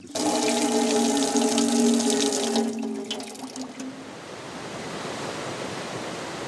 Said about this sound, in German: Und hier ist ein Wasserhahn.